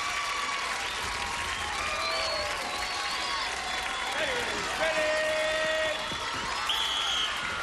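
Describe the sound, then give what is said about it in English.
A large crowd cheers and applauds steadily, a dense roar of clapping with whistles and shouts rising over it, loud and sustained throughout with no clear talking. “Whoa, listen to that crowd.”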